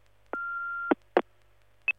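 A steady electronic answering machine beep tone, the signal to leave a message, sounds for about half a second, followed by a few short clicks and bursts as recording starts.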